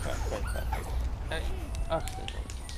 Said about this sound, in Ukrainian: О, привіт, собака.